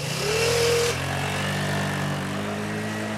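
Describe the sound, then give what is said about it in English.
A small moped engine buzzes steadily with a mid-pitched drone as Sydney rides off on his moped, its tone shifting slightly as it pulls away and grows a little fainter. No voices are heard. “Sydney gets on his moped.”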